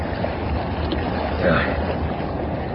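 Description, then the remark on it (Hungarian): A motorboat's steady, rushing drone fills the scene, mixed with wind and water noise, swelling slightly louder midway as though drawing closer. “Apa, oda néz! Motorcsóna!”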